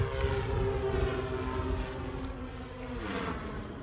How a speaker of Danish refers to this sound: Så hvis vi nu forestiller os, at en drone, og vi får lige lyden af en drone her.